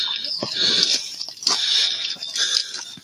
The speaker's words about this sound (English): And that is me breathing hard. I had to climb to get to where I was.